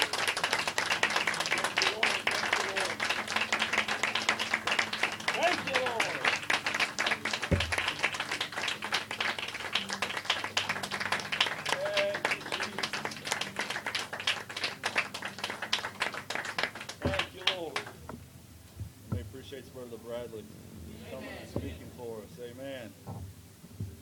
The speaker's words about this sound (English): Let's just give the Lord a hand clap for you.